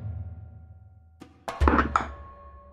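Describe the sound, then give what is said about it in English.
Dice clatter across a tabletop in a short burst of hard, quick knocks and a dull thunk, fairly loud, over a low background hum with no talking, as a die is rolled in a game and comes up 17. “I actually rolled well enough.”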